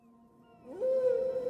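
A humpback whale's song: a soft, low moaning tone that sweeps upward into a loud, sustained, slightly wavering cry, heard alone with no talking.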